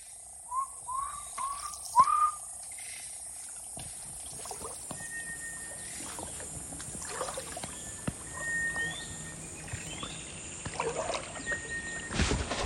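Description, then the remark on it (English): A man paddling a wooden boat whistles back and forth with birds: a series of short, clear whistled notes rise and fall early on, followed by sparse, steady whistle tones spaced apart over a quiet outdoor background. “He knows this place inside out, and he's full on whistling back and over with the birds.”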